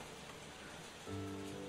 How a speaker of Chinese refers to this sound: 下雨了